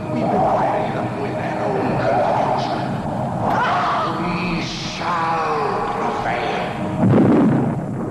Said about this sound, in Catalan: Però veiem també una atleta rossa amb samarreta blanca de tires, pantalons curts vermells, perseguida per uns antiavalots, que arriba davant de la pantalla. I de cop i volta llançarà el martell contra la pantalla i gran explosió.